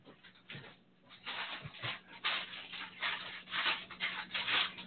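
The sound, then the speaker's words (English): Crackling and sizzling from lunch being cooked: a steady, hissy crackle that swells and surges in uneven bursts, moderately loud, with no one speaking. “By the way, I'm sorry if you're hearing crackling and stuff in the background. I'm making lunch for my wife.”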